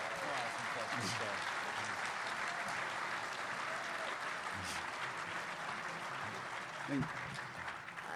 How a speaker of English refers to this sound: So let's hear a round of applause for Joe.